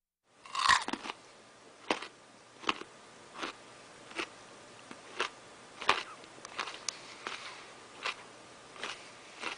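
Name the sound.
people chewing food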